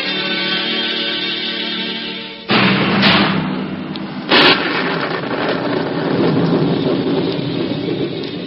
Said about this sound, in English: Storm rages round the castle of Rotherhood, the castle of Cedric the Saxon.